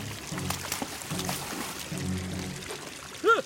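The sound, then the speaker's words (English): Water pours steadily from a leaking pipe, a continuous gushing splash for several seconds, ending with a brief high squeaky chirp. “I'll turn the water off at the mains.”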